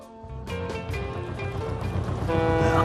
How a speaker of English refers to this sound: Keep the tiller steady. The Thames is a wide river